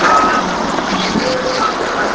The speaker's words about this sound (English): Low growl of a SEPTA bus.